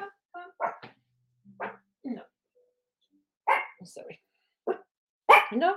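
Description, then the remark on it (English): A dog barks repeatedly in short, irregular bursts, some sharp and yippy, with brief quiet gaps between them; the barking is moderately loud. “Sorry, my dog is barking.”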